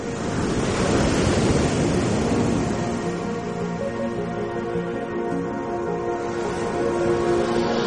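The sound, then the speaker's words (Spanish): Ocean waves wash against the shore at Nazaré in a continuous broad roar, swelling louder near the start and then settling, with faint sustained musical tones underneath and no voices. “Nunca el mar está solo, y cualquier rincón tranquilo de las afueras de la ciudad es el lugar perfecto para empaparse bien de la música del mar.”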